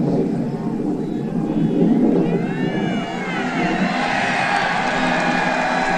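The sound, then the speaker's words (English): Military jets fly overhead in a broad roar, their whining tones bending in pitch as they pass, loud over a noisy crowd with murmuring voices beneath; one plane is about four days old. “The jets are flying overhead.”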